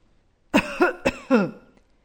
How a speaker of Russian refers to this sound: Сначала она услышала старческий кашель.